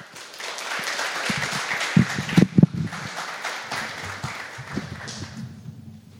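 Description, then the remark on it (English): An audience gives a warm round of applause for a speaker as he comes up, a steady, dense wash of clapping that lasts several seconds, with a few louder sharp claps standing out partway through before it gradually thins. “So would you give him a warm round of applause as he comes up?”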